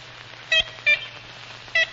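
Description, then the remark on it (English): Three short, nasal honking calls of an ivory-billed woodpecker, toy-horn-like and fairly high, the first two in quick succession and the third after a pause, over a faint steady hum. “It's actually more of a honk, kind of an awkward sound.”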